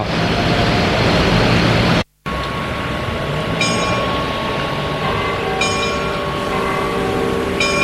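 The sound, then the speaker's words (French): A metro train rumbles loudly into a station, steady mechanical roar with brief cut near the start, followed by high-pitched squealing brake tones as it slows. No talking. “Le métro arrive.”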